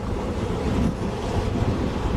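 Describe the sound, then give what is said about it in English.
Ocean waves wash onto a beach in a steady, rumbling roar, no longer coming in as far up the beach, mixed with gusty wind noise against the microphone. No one speaks. “They're just laying there where they were pushed ahead of the tide, of the waves.”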